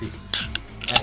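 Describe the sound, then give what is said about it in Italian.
A beer bottle cap is pried off with a sharp metallic click and a quick bright hiss of escaping gas, then a few more short clicks, while a man speaks briefly. “Un'altra birra stappata, un'altra bella giornata.”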